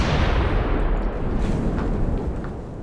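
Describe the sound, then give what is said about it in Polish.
A dynamite blast set in a crevice tears through a rock wall, bringing the whole wall down: a loud, heavy, bass-rich roar that rumbles on steadily for about three seconds, easing only slightly toward the end, with no voices. “Dobra, dawaj ten dynamit.”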